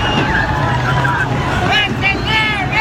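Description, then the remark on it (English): A crowd of about 1,000 people yelling as they try to rush the San Ysidro border crossing in California, next to San Diego; many raised voices overlap in a loud, continuous din, with a few higher-pitched shouts rising above a steady low rumble. “People yelling, chucking rocks, et cetera, et cetera.”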